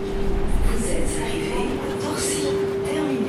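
vehicle, S-Bahn commuter train arriving

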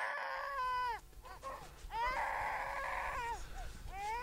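human body sound, newborn baby crying

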